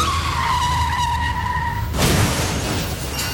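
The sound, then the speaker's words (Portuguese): A car brakes hard with a long, loud tire squeal lasting about two seconds, then breaks into a rough skidding scrape and crunching noise that carries on to the end. “Chefe está freando. Chefe, está derrapando.”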